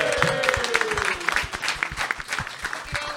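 An audience applauds steadily, dense overlapping claps filling the whole stretch with a bright, crackling texture, along with a faint whistle-like tone gliding downward early on.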